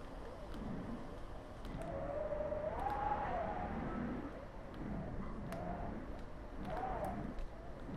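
wind

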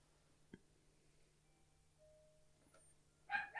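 dog barking

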